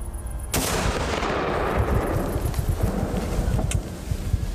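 impact, rifle gunshot

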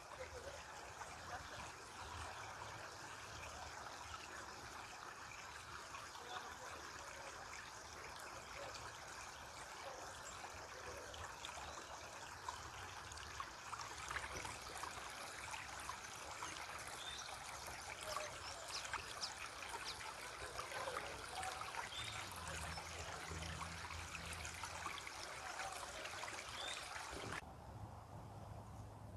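nature, babbling stream water flowing

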